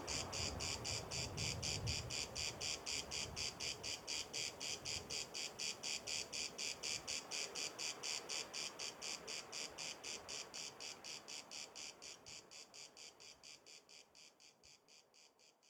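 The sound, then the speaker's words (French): A cicada sings alone in a steady, fast pulsing buzz, bright and shrill, repeating evenly for the whole stretch before slowly fading toward the end. “Rien ne dit, dans le chant de la cigale, qu'elle sera morte ce soir.”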